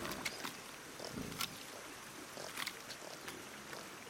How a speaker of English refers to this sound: To one side of the barn, a mama pig and her pink piglets with twisty little tails play with one another in the mud, making quiet oinking sounds.